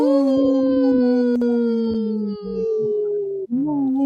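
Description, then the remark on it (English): A wolf howls in one long, loud, steady note that slowly sinks in pitch, then breaks and swoops back upward near the end. No one speaks. “You see how I say no? The wolves say no.”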